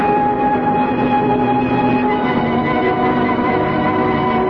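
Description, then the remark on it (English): A passenger train bound for Venice rolls along steadily with a continuous loud rumble and faint tonal hums, the constant noise of rail travel with no talking. “I want to stay right here on this train and go wherever it's going.”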